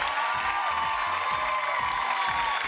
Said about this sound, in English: Every round, every question, you played superbly right to the very end. But round of applause.